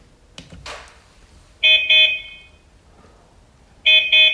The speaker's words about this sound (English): Three beeps of his horn.